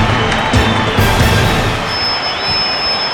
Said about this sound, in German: Nun hört euch das Publikum an! Wow!